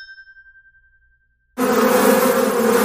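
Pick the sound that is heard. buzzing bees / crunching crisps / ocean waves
buzzing bees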